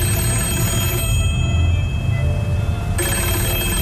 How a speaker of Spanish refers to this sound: Y cuando Eduardo llevaba 3 años bajo tierra, sonó el teléfono de su casa, mas nadie había allí para descolgarlo.